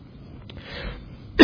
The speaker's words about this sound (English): Excuse me, I choked on that water.